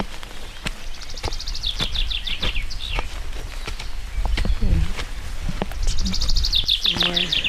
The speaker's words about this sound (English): Aren't the birds amazing?